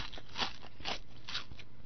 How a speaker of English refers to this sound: I'm sitting here eating tortilla chips that crunch when you bite down on them. Yum.